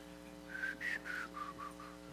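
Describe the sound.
A few short whistled notes, about five, rise and fall in quick succession at a council when it is announced who will preach about money, moderately quiet over a steady low hum in the background.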